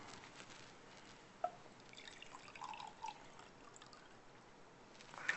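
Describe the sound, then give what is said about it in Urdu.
Half a liter of water being poured into a cooking pot to make Kashmiri tea, a quiet, steady liquid wash with a few soft drips and splashes scattered through it, no voices present. “آدھا لیٹر پانی, آدھا لیٹر پانی میں ایک چائے کا چمچ سس پتی, 6 عدد چھوٹی الائچی.”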